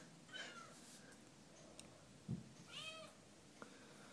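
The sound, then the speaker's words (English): A female cat meows a few times while trying to claw someone, with harmonic, rising-and-falling cries around half a second and three seconds in, plus a short thump and light rustling between. “Ah, bad kitty, don't do that. She's trying to claw me.”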